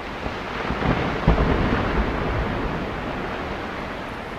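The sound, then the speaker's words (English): Ice sheets loosened in the late morning crash down from cliffs onto a snow cone in a deep, thunder-like roar, with a sharper crack early on before the rumbling wash of noise continues steadily and slowly eases. No voices. “It's pretty amazing how loud those ice sheets can be when they come crashing down.”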